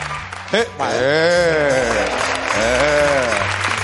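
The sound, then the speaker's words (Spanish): An audience claps steadily for about four seconds, a dense, even patter of many hands, with a voice rising and falling over the applause. “Aplaudís cualquier cosa.”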